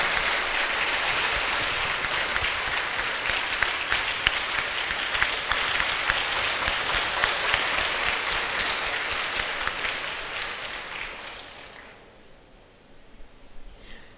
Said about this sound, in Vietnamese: Xin cộng đoàn cho chúc mừng một tràng pháo tay.